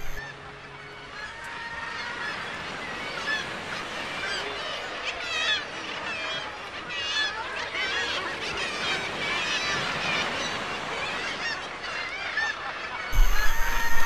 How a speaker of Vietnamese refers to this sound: Có đến 1.000 con chim ó biển phương Bắc đang trong mùa sinh sản trên đảo Helgoland. Những con chim to lớn này rất thích những điều kiện lý tưởng nơi đây, mặc dù không gian vô cùng hạn chế trên những mỏm đá dốc đứng.